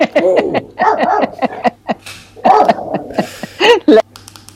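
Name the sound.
dog vocalizing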